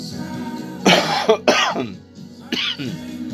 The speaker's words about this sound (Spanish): Sí, hay que toser, claro. Antes de encender un cigarrillo hay que toser para poder fumarlo.